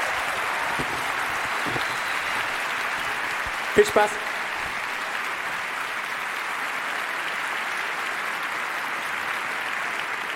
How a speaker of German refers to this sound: Bitte begrüßt mit einem Riesenapplaus